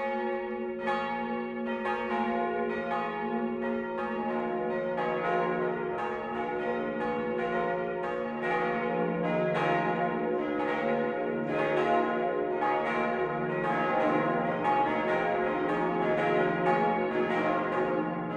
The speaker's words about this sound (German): Es ist 12 Uhr. Das Mittagsläuten kommt heute von der Pfarrkirche St. Bartholomäus im unterfränkischen Volkach.